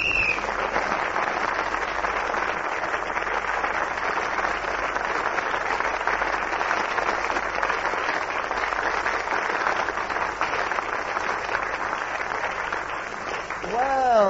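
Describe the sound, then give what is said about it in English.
Sustained audience applause cued for Peter Jones, a dense, steady wash of clapping at an even loudness for about fourteen seconds, with a brief voice or whistle-like tone emerging at the very end. “So that lovely applause which Clement asked for Peter Jones, but I give it to all of them because they all give such tremendous value.”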